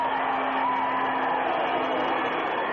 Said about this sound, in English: The crowd is really into this game. The noise level's unbelievable in here.